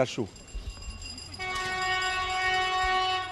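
A train passes near the train station in Novozavidovo: a low rumble gives way to a sustained, fairly loud horn blast that begins partway through and holds to the end.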